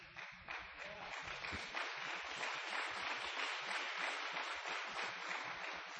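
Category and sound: crowd, audience clapping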